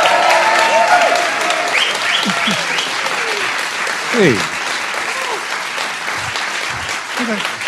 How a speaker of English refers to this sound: So let's give Scott Simon a big Philadelphia welcome, the way we cheer the Phillies.